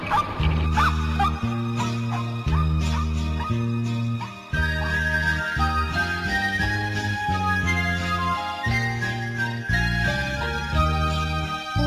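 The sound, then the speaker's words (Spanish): A small dog yips and barks in quick repeated bursts over a bouncy, steady musical accompaniment, the barks clear against the tune. “El buey también, el caballo y mi bonito perrito, guau guau.”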